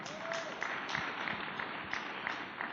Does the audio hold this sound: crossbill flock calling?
no